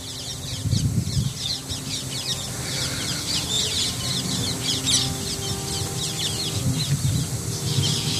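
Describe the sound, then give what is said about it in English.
A flock of parrots chatters and squawks continuously at Giriraj Govardhan, with many overlapping calls over a steady low background rumble; no one speaks. “I think those parrots are bringing the messages of your prayers to Krishna.”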